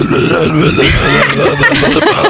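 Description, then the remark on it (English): A person imitates the voice of a movie troll with a continuous gurgling, throaty croak with a wobbling pitch, a guttural creature-like growl for a couple of seconds without any clear words. “It kind of sounds like someone farting through a soup can most of the time.”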